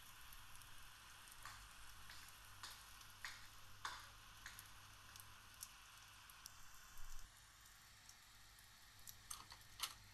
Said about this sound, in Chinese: 还在下雨啊，最讨厌下雨天了。